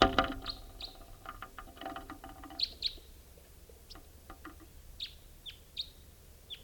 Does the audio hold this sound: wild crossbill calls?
yes